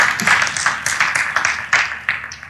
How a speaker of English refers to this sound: I almost got an applause, you know.